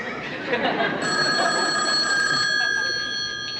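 telephone ringing

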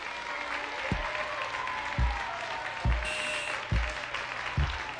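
audience cheering and applause

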